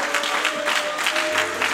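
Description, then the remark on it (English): An audience clapping their hands in praise to Jesus, a dense, steady wash of many overlapping claps that holds at an even level throughout, with no voices standing out above it. “Why don't we put our hands together, our voices lifted up to Jesus tonight?”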